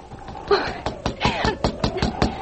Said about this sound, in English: Five minutes later, Louise was knocking on the door of Dr. Moran's house.